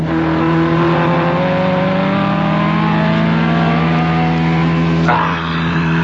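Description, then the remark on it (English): A loud race car engine roars steadily, its pitch sliding as it revs hard, then shifts abruptly near the end as it passes another car, with no voices. “He's going to pass you. Impossibile. Not only possibile, but there he goes.”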